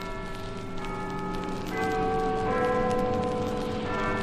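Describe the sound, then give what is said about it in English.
Large cathedral church bells ring out in overlapping peals, their sustained tones shifting pitch as new strikes land, loud and reverberant with no voices present. “Old Spider's senses ring a tingle in a way like those bells.”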